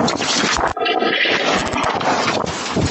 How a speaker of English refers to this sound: Wow, that was so windy. It took the little pump thing with it.